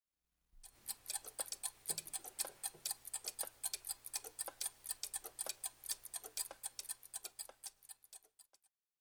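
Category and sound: household object, clock ticking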